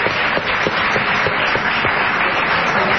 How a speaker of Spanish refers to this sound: Un aplauso para Julia Mengolini, caramba.